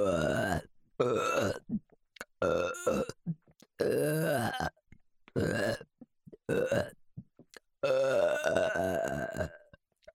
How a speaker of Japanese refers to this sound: ゲップ悪夢最高です。